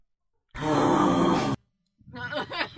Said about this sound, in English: That was the noise. Was it just heavy breathing? Yeah, it was just really heavy breathing. I don't know what it is, but it's scary.